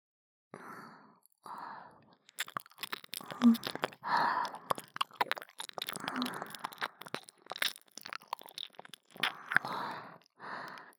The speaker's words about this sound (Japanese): 反対側の確認も必要ですね。どちらかの方向しか録音できないのであれば片手落ちです。舐める音も吐息もきちんと拾ってもらわねばなりません。